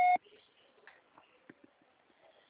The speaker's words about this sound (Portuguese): Sua chamada está sendo encaminhada para a caixa postal e estará sujeita à cobrança após o sinal. Deixe seu recado.